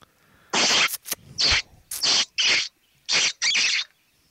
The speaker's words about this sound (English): That's frightening. It's crazy. Like, if you heard that in the backyard, and you said to your wife, oh, don't worry about it, that's just a rabbit, she'd be like, get out of here.